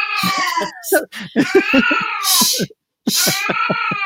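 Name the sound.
cat meowing loudly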